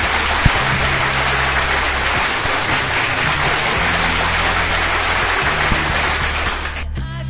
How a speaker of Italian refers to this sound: Falla bene, adesso sta per concludere l'applauso finto. Allora, tu di il nome e io faccio partire l'applauso, vai.